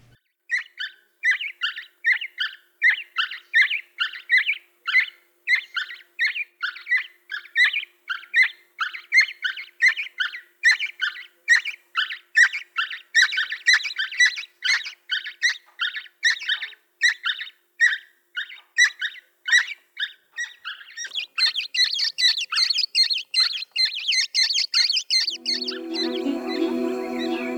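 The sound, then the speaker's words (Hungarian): Two fledgling chicks, growing their feathers, beg for food with rapid, high, squeaky calls repeated over and over in a steady rhythm. The calls grow into a denser, buzzier chorus near the end. No voices. “Végezetül két tollasodó fióka elesékkérő hangját halljuk.”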